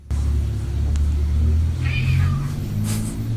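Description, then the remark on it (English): A cat stares at a door and chitters at it in brief, thin chirping bursts over a steady, heavy low rumble in the background. No one speaks. “Like, it's, you know, the chittering sounds that fucking cats do.”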